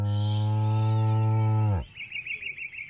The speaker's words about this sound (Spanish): ¡Se escapó la vaquita, se escapó la vaquita! ¡Hay que ir a buscarla, así tengo que ir por todo el pueblo!